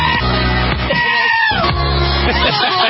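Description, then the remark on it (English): A goat screams in loud, drawn-out bleats, two long wavering cries separated by a brief break, harsh with strong harmonics. “speaking of goat screaming”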